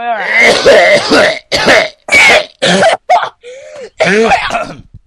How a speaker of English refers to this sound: Let me have a good old cough. Hang on, let me bring this up.